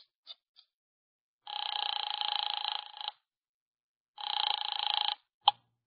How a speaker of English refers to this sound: I drove down to the document research laboratory on Vanderbilt and got such a shock that I grabbed the office phone and dialed Wolf at once.